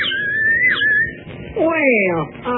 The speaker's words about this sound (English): Well, a whistle. Yes, but it's a special kind of whistle. Imitates birds. It does. And, see, you blow on this end, and it's a meadowlark.